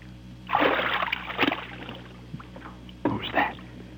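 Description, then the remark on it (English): Someone stumbles over Private Conrad into shallow creek water with a loud, churning splash, followed a couple of seconds later by a second shorter slosh, with faint hushed voices around it. “Going swimming? I stumbled.”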